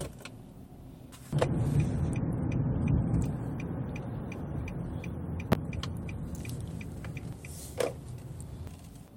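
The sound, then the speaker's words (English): A car's low engine and road rumble after a quiet start, holding steady with a few sharp clicks and creaks as the vehicle slows and comes to a stop, with no one talking. “Why are you stopping the car?”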